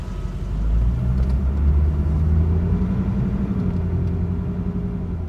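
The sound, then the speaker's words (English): A steady, rumbling wash of traffic, with car engines droning in the low end and a hum of passing vehicles that holds fairly loud and even throughout, with no voices. “There are a lot of cars.”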